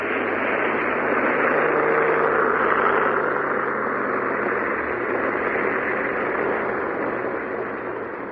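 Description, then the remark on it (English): A steady, loud droning roar of a Wellington bomber's engines runs throughout, dense and hissy with a faint low hum underneath and no voices. “I recognize the engine. That's absurd, my dear Countess, if you don't mind my saying so. All Wellingtons sound alike.”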